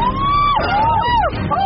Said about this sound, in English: Oh my god, there's a bus coming!